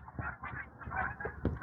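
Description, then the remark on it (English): A flock of geese flying in six or eight V formations with loose stragglers honks overhead in a continuous, overlapping chorus of calls, steady, with a few louder honks standing out near the end. “They're all sorting themselves out. That's what all the yelling is about.”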